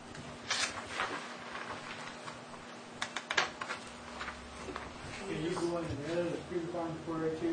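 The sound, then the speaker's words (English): Quick, irregular clicks of typing on a computer keyboard sound for several seconds, then a person starts talking while a low steady hum continues underneath. “You could just put a letter on the keyboard, will it save it there?”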